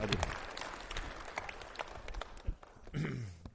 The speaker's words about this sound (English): And maybe just give him a clap, a warm welcome.